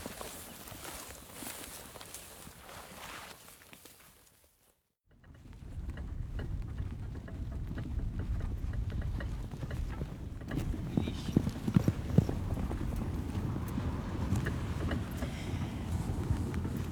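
Horse hooves clip-clopping at a steady walking rhythm, fairly close and clear, after a brief silent gap, with a faint whinny and some outdoor background noise around them.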